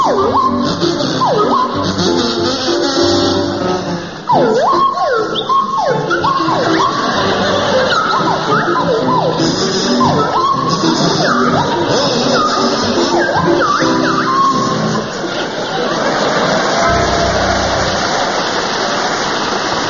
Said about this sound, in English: and it's to feature Willie Rushton on kazoo and Jeremy Hardy on the Swanee Whistle.